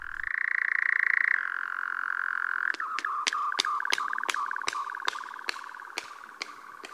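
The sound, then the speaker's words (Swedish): A male nightjar's steady, buzzing churr runs throughout, and partway in a rapid series of about a dozen sharp wing claps cuts through it at an even rhythm. The bird claps its wings together in flight while courting a female. “Hör här hur nattskärehanen gör som en del i uppvaktningen av sin tilltänkta hona.”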